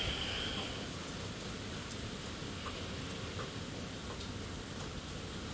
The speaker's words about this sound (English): I love the smell of rain.